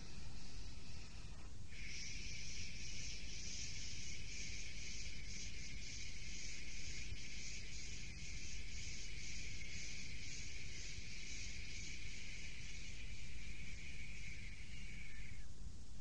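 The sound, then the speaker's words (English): A single long, gentle "shhh" exhale, the liver sound of a breathing exercise made after a deep breath, steady and breathy, holding evenly for around fourteen seconds before fading out, with no talking. “It's the sound of asking a little baby to hush.”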